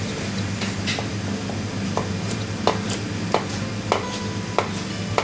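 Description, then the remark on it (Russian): A knife chops squid into cubes for a salad on a cutting board in a slow, steady rhythm of sharp taps, roughly one every half second or more, over a constant low hum with no talking. “Так, все, режем кальмар.”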